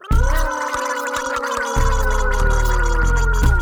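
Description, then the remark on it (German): A loud, continuous gargle of water in the throat during tooth brushing, bubbling and voiced with a steady hum-like pitch, lasting a few seconds without a break. “Gurgeln, hin und her, die Waschbeckenband, yeah, yeah, yeah.”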